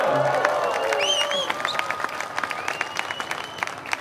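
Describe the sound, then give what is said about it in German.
A crowd at an outdoor Pentecost worship service in bright sunshine cheers and shouts joyfully, with high whooping voices rising over a dense wash of clapping that stays loud throughout and thins slightly toward the end. “Also wer so schreit und so freudig ist, der ist nicht in Pfingststimmung.”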